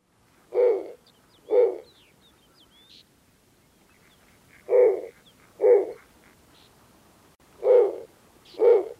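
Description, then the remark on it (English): Low, raspy hoots of a snowy owl, given in three pairs of two with pauses between, fairly loud and clear against a quiet background with faint chirps of other birds. “These low, raspy hoots can be heard for up to 7 miles in the tundra, and other owls often answer back.”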